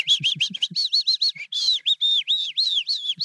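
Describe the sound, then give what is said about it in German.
A Eurasian skylark sings a rapid, continuous stream of bright chirps and warbling notes, loud, with no pauses and no voices present. “Sie kann das ewig so weitermachen, minutenlang. Sie kann gleichzeitig singen, atmen und fliegen.”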